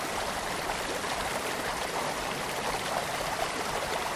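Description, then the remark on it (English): Steady rushing and gurgling of a babbling brook, water flowing continuously over stones, with no voices or other sounds over it. “There's a babbling brook.”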